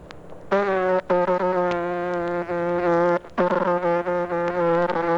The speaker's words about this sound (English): And, here's the sound of a bumblebee lining on Limburger cheese.